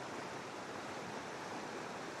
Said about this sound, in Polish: Zburzona woda widać po tych opadach deszczu.